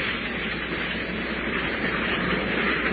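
A continuous, dense rumble of an approaching train fills the scene, steady and fairly loud, swelling only slightly toward the end as it gets louder, with no voices present.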